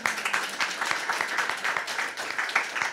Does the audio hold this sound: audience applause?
yes